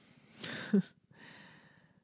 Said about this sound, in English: Sorry, I have a yawn.